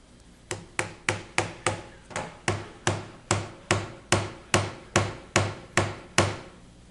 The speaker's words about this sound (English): The glass is quite tough here. We can take a nail and we can start banging around the screen here and nothing's going to happen. Bang, bang, all over the screen. No cracks, glass is still intact. In fact, we can actually use this as a hammer itself.